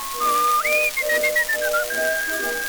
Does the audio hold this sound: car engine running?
no